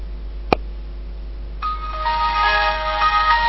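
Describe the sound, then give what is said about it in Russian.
A single sharp click, then after a brief pause a bright Windows XP-style startup jingle of layered sustained tones plays from a mobile phone speaker as the phone is switched on, with no one talking. “Да, это у него такой телефон с XP. Секс-пи. Да, секс-пи. А вот так включается.”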